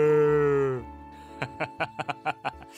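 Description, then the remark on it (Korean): A human voice imitates a cow's moo with one low, sustained drawn-out tone, then breaks into a quick series of short, rhythmic chuckling bursts. “다 같이 따라해 보시오. 무.”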